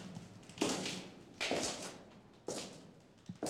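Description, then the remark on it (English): A few heavy, spaced thuds of someone knocking at a door, followed by slow footsteps of someone walking toward Holmes's room, each impact sharp with a short ringing tail, over a quiet background with no talking. “But Holmes did not have time to answer me, because just then we heard someone knock at the door. And then someone walking towards Holmes's room.”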